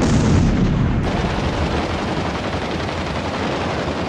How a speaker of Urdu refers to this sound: اگلی صبح سے ہی بیروت شہر میں شدید بمباری شروع کی گئی.